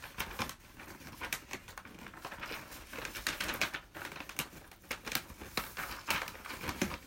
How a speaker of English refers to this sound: Let's let you hear the sound effects of the paper being cut.